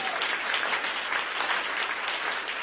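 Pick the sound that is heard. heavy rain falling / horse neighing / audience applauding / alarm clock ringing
audience applauding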